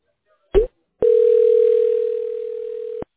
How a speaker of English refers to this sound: Okay. Give me a second. It's dialing.